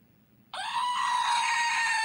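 screaming goat toy

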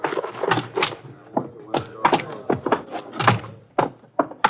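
door being opened

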